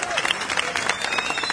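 An audience at a live performance in Israel applauds an album in a dense, steady wash of many hands clapping, with crowd noise and cheering mixed in throughout.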